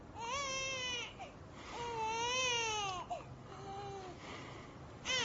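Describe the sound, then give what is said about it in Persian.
An infant boy wails in the middle of the night in several long, rising-and-falling bursts with short gasping breaks between them, loud, continuing for about five seconds without any talking. “داره گریه میکنه.”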